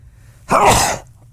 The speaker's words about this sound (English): Sneeze coming.